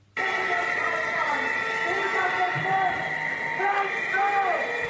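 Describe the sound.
A loud, dense crowd din of thousands of VW workers gathered in a hall in Germany on Wednesday to hear the company's management speak, with many shouting voices and sharp whistles rising and falling continuously over a steady roar, sustained throughout.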